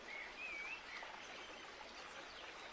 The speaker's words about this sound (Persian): درختان بید صدای آوای دلنشین آب به آدم ها آرامش میدهد.